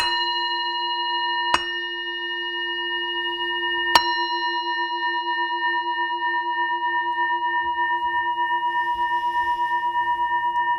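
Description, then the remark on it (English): A meditation bell, rung to begin a meditation practice, is struck twice, a couple of seconds apart, and its rich, steady tone hums on with a slow wavering pulse, lingering alone without fading much to the end. “Traditionally, the practice actually is done by ringing a bell, and in the ringing of the bell to open the heart, to just in that sound of the bell to create a kind of openness, a space.”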